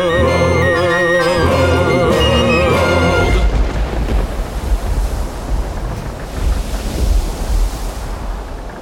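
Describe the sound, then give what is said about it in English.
A stormy sea roars loudly with gusting wind and crashing waves, after a few seconds of music cut off abruptly at the start. “The storm is getting closer and closer.”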